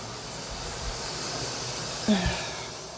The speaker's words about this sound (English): Wow, that shower's pretty loud.